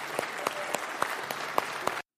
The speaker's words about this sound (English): Amen. Would you applaud the salvation of the Lord? Would you do that?